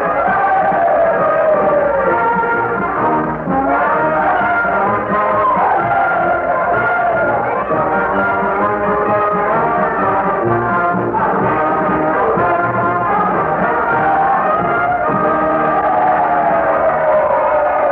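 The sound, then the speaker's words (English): A Union brass band plays the Confederate song "Dixie" at President Lincoln's request, a lively march tune with horns sustaining wavering melodic lines, while a dense, noisy crowd cheers and shouts continuously underneath at a steady, loud level. “Mr. Lincoln has asked the Union band to play the Confederate song, and they've responded with a will.”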